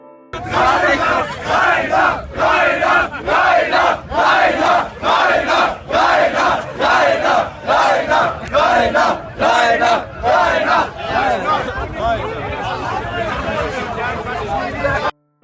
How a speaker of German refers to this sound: Am 14. August dann veranstaltete Rainer ein Fantreffen auf dem Summer Breeze, wobei seine Fans lauthals seinen Namen riefen.